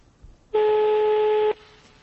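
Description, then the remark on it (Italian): A single loud, steady telephone ringing tone lasts about one second against a faint background hiss, as a redialed phone call to a doctor connects and rings on the line. “io l'ho già richiamato, quindi c'è questa pausa di riflessione del telefono che sta pensando, allora lo metto in contatto, lo metto in contatto, ci ha messo in contatto.”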